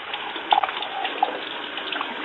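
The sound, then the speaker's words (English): Water runs steadily from a tap, a continuous rushing hiss with slight splashy flickers, heard alone through a thin, muffled line. “Water running, please. Turn it off.”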